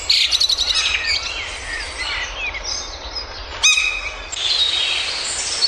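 Several small garden birds chirp and sing continuously, overlapping bright trills and tweets from multiple directions, with a sharper burst of calls partway through and no talking.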